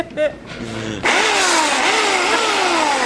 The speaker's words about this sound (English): Not because of the chainsaw. Give it another rev. Yeah, hold on.